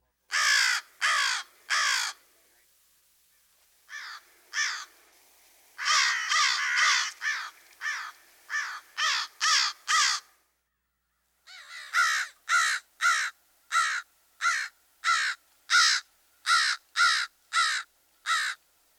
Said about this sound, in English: While the raucous caw, caw is typical, the crow has an extensive repertoire, including rattles and clicks. Here's the familiar vocalization again.